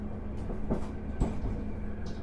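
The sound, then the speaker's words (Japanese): Steady low rumble of a train bound for Abashiri in motion, heard from inside the carriage, with occasional soft clunks and rattles over the continuous droning hum, as it runs through a section where deer and other wild animals often appear. “また当列車はこの先、鹿などの野生動物が多く出没する区間を走行してまいります。”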